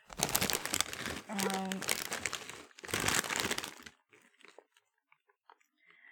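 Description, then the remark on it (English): Loud, dense crinkling of a bag of All Dressed flavor potato chips comes in two long bursts, with a brief low hum in the middle, then trails off into a few faint, scattered crackles. “These are Ruffles, by the way, and I don't want to get hate mail, but I think Ruffles are way better than these.”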